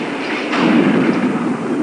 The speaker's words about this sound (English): That sounds like thunder. It does.